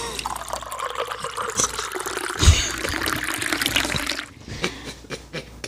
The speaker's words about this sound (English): There goes the glass fill sound that we've adopted. Is it glass?